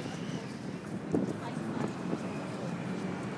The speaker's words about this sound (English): Sound of trains on the bridge to the left.